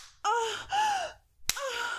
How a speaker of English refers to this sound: You slap my ass.